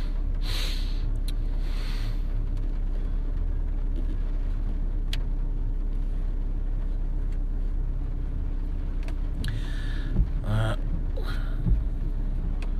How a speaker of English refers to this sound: I'm moving the headlights up and down here, you know, the beam. And you can, it moves very quickly, but flipping not. I can actually hear that. The motor's working. I don't mind this motor. It's all right.